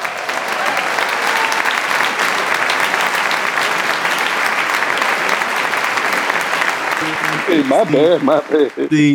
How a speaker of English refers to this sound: I'm supposed to say your name, and then we put in applause. Man. We put in the applause and post-editing, man.